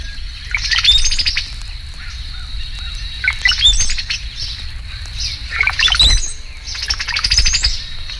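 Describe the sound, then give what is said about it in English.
A male and a female parasitic cowbird call together in four bursts: the male's high squeals and liquid gurgles mix with the female's rapid chatter, over a steady low rumble. “and the two birds together.”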